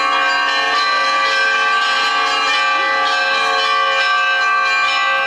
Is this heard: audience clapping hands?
no